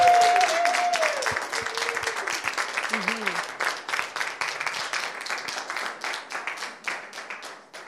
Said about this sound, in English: And then take a bow, and everybody on this side, applaud for what you saw.